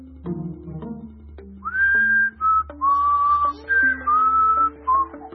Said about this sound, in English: I was just a little on the loud side. Whistling was okay, just volume high.